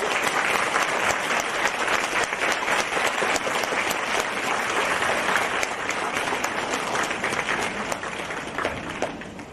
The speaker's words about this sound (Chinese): 尊敬的卢军宏台长将为我们当场看图腾解答问题，让我们用最热烈的掌声恭喜我们尊敬的卢军宏台长。